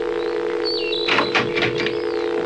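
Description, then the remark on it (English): A steady, continuous telephone dial tone from a house phone that has just been picked up hums throughout, joined midway by a few brief mechanical clicks and faint whistling chirps, with no one speaking. “Now, pick up the phone. Go ahead. It's the dial tone.”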